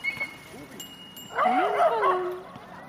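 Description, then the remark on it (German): Dogs whine and yelp in a rising, wavering burst lasting about a second, preceded by a few faint, soft whimpers; the sounds are moderately loud. “Deine Hundis.”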